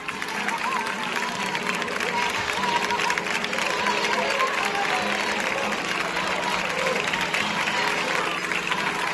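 As people come out of a mass at the church of Santa Ana in Seville, a crowd claps steadily to the rhythm of 'ole, ole' while people cheer and call out 'Ole tú', a dense, continuous wash of palms and voices that stays loud and even throughout.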